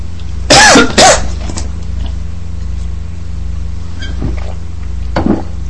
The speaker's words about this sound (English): I'm going to take another drink, because I'm going to cough again.